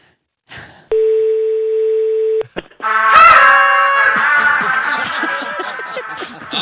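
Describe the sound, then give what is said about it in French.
A steady telephone dial tone hums for about a second and a half, broken by a couple of brief dialing blips, before loud, overlapping voices take over. “Ben, si vous voulez, on va appeler le patron avec qui on était hier.”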